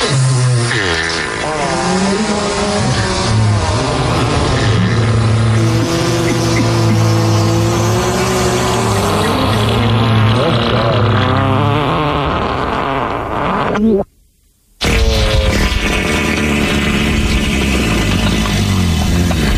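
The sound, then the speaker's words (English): A loud, continuous medley of buzzy, sputtering fart sound effects with wobbling, sliding pitches, broken by a brief silence near the end before the raspberries resume. “Can she get a fart medley and uh-oh, look out and thrill?”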